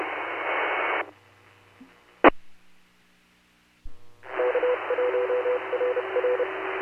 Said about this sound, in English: And the way that they did theirs is the repeater courtesy tone, instead of just two tones, it goes did-out, did-it. So you can tell that it's an L for the link.